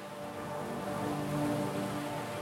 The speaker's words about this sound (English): And so you would hear this ocean making this constant noise. What you're hearing are what are called microbarons, and that's the surface of the water is coupling into the atmosphere and generating an acoustic wave that you hear.